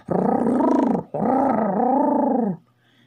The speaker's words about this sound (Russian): Из глубины участка донеслось грозное рычание.